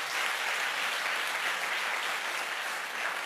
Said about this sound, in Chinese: 愿意的拍手把荣耀归给主好不好？